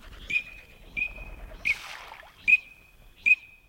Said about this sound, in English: That's the green-winged teal.